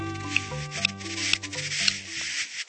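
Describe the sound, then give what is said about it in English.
A male buff-breasted sandpiper's courtship clicks as it courts a female on its breeding grounds far north of the Arctic Circle: four sharp, dry ticks spaced about half a second apart, set against a steady hiss and soft sustained low tones. “They're the calls of a male buff-breasted sandpiper courting a female on their breeding grounds far north of the Arctic Circle.”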